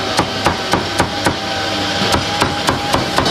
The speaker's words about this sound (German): aber ich sehe, da hinten wird auch nebenbei die ein oder andere Ente zerhackt oder das Hühnchen zerteilt.